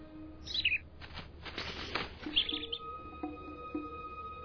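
A bird gives a few sharp, high chirps, with a breathy, hissing psst-like call between them. The sounds are clear, and nobody speaks.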